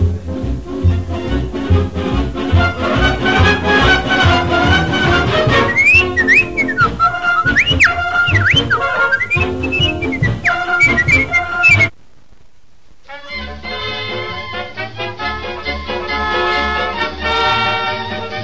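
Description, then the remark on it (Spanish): A melody is whistled loudly as the closing tune of a radio broadcast, over full instrumental backing, its bright sliding notes carrying the tune before the music cuts off abruptly and a different song begins. “Y será el zorro que cerrará la emisión con el silbidito.”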